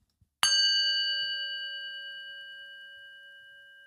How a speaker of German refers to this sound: Mach mal einen Gong.